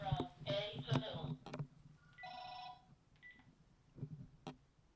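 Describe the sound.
Talking at the start gives way to a steady electronic telephone tone lasting under a second, then a short higher beep, like keypad dialing tones at moderate volume.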